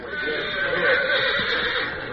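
A horse lets out one sustained, fairly loud whinny, lasting a couple of seconds with no voices over it.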